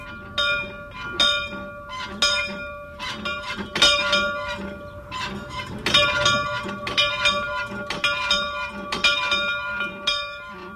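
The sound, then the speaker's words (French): An old bell, a museum piece at the Flaubert museum, clangs frantically as the president of the Amis de Flaubert rings it, struck over and over in a rapid, uneven rhythm, its ringing tones overlapping and lingering between strikes. It sounds loud, with no voices. “Cette cloche que vous entendez, qui est actionnée fébrilement par Monsieur Dubuc, président des Amis de Flaubert, cette cloche est une pièce de musée.”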